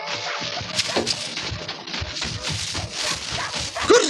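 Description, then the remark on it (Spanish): A fierce pack of dogs barks and yelps together as it approaches through a large, dark garden, in a dense, continuous clamor with overlapping high yips and whines throughout, fairly loud with no talking. “Kiro y el gigantón Jato se aproximan junto con la feroz jauría.”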